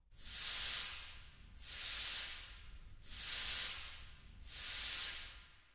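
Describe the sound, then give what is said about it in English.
Four loud, bright bursts of hissing air from a scuba tank, used in place of an orchestra instrument to imitate the sound of steam, evenly spaced about every second and a half, each swelling and fading like puffs of steam, with no voices. “For the sound of steam, I used a scuba tank.”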